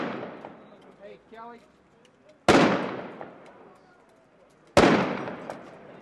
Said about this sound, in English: The gunshots we just heard were Iraqi federal police shooting at the explosive device in order to dismantle it.